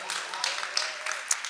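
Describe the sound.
A short burst of audience applause, a dense patter of many hands clapping at steady volume, with a few voices mixed into the crowd noise.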